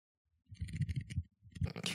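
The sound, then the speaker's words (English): A deck of playing cards being shuffled for a game of solitaire, with two quick bursts of papery riffling and flicking separated by a short pause, heard on its own without talk. “Was that a deck of cards? Yeah, I'm playing some solitaire.”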